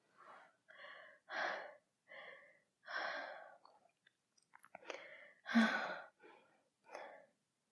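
heavy panting breaths

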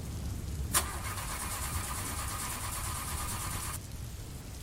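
car engine being started

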